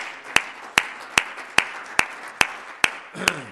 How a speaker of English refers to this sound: Give the Lord a hand clap of praise tonight. Thank you, Jesus.